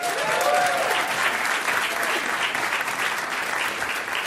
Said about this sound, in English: You can clap.